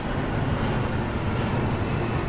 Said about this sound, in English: Whoever decided New Jersey is the Garden State didn't have this place in mind. In the flight path of Newark Airport, it's so loud, freight trains fade into the background.